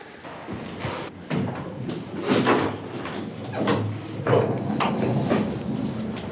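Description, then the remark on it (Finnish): Heavy doors swing and thud shut several times, with creaking, scraping and low rumbling between the irregular knocks over a steady background murmur, next to the astronomical observatory in central Helsinki, Finland. “Raskaat ovet.”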